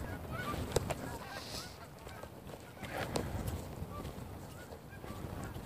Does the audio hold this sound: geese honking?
yes